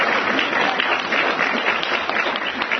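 A crowd applauds steadily, a dense wash of many hands clapping at even loudness for a few seconds with no voices standing out.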